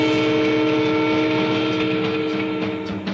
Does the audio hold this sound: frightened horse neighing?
no